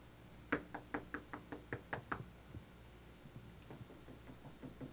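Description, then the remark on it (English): Someone raps on a door about nine times in a quick, steady rhythm, the knocks sharp and close, followed by a quieter, fainter series of taps. “This is a word that was used in classical Greek to describe a porter, someone who heard the knock at the door and went and answered the door.”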